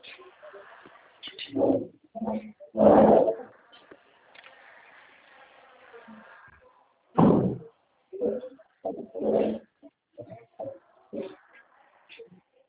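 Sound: door being closed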